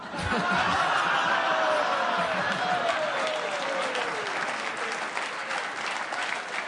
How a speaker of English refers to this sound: I know. I applauded, too, just out of the sheer tenacity, veracity, whatever the word would be there. Absurdity.